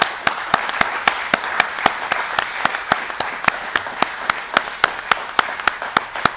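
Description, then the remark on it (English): A room full of people at a meeting applauds steadily for several seconds for a World War II veteran, a dense wash of clapping with a few sharp, evenly spaced claps standing out. No one speaks. “So if we could give our World War II veteran another round of applause.”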